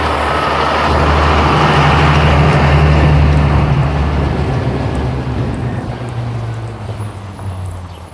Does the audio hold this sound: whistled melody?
no